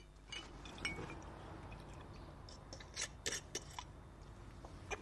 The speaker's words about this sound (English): He unscrews the cap from a bottle of vodka and gulps some down before getting out.